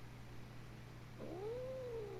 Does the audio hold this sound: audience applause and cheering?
no